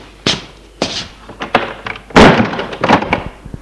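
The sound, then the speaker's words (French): A door is pushed shut with a heavy thunk after a person is let in, among several knocks and bumps of handling and movement. No one speaks. “Marc fait entrer Gilles et ferme la porte.”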